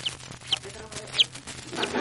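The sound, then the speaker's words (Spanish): A 15-day-old baby chick peeps four times, short high-pitched chirps spaced irregularly, soft against a low background hiss. “Y ahora ustedes van a tener la amabilidad de hacer un momento de silencio para oír vocalizar al pollito”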